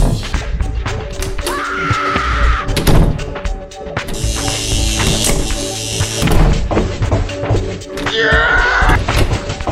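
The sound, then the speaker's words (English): A heavy rusted metal door is pushed open by hand, groaning on rusty hinges, with drawn-out squealing creaks mixed among loud clanks and thuds of the door moving. “Door hinges creak in a belaboured moan.”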